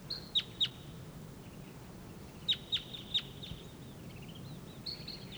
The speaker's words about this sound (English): There's another wild bird up in the treetop.